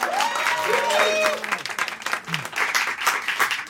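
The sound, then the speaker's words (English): An audience breaks into steady, dense applause that continues throughout, with a few voices whooping and cheering over the clapping in the first second or so. “It's worth saying, yeah, you should applaud that.”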